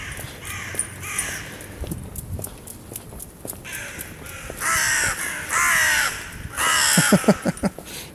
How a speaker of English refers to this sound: Well, at least the crows are happy.